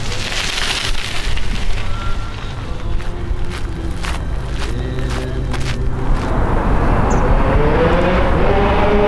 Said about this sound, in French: On est tout au bord de la Maine et on entend le bruit de la circulation sur le pont et sur la rive d'en face.